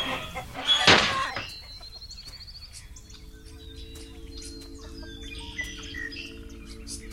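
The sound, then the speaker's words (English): Chickens cluck and chirp around a farmyard, with a sudden loud squawk or flurry near the start, then softer scattered calls over a steady low hum. “No more pecking, scratching chickens cluttering up your mind.”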